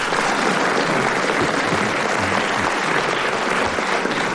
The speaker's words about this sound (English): Well, we now come to the last round, and to Frank and Dennis's quotations, and the marks will be awarded on the length of the applause from the audience here in the theatre.